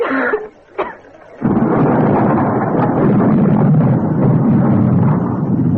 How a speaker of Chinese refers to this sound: 天空响起了雷声，风似乎更大了，室外站着的海伦又猛地咳嗽起来。教室里的杰埃尔听见朋友的咳嗽声，又是担心又是愤怒。